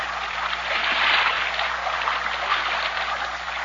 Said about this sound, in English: Listen to the Moro boatmen as they paddle their heavily loaded Vinca against the swift rapids of the narrow river. It's tough going, because here, the river boils out of the narrow gorge that cuts through the mountain range